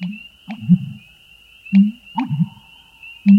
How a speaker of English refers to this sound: The call of the bittern's unique, for it booms twixt the reeds in a creek.